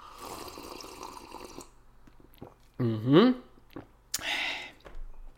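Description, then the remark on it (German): Liquid sounds of a drink as a person takes a last sip with a toast, then a noisy sip and swallow with a brief voiced gulp, followed by a short breathy exhale. “Das sage ich Ihnen gleich, was dahinter steckte, nach einem letzten Schlückchen für heute. Prost!”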